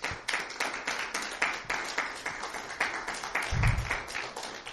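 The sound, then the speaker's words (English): A church audience claps for the Lord after a prayer in a steady, fairly quick rhythm, the sharp claps blending into a sustained wash of applause without any voices over it. “Give the Lord a big clap offering.”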